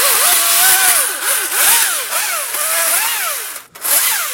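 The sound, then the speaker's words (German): A chainsaw runs loud throughout, trimming and cleaning up the thick base of a freshly felled tree, its engine whine rising and falling as it bites into the wood and sprays wood chips, with a brief drop in revs near the end before it roars back. “Oh, das riecht auch schön frisch jetzt nach dem Sägen. So, putze ich den mal ein bisschen auf.”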